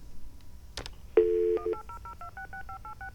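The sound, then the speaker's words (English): A click and a brief steady dial tone, then a quick run of about ten short telephone keypad beeps, each a crisp two-note tone, dialed rapidly with no talking, as a toll-free 1-800 number is dialed. “So pick up your phone, dial”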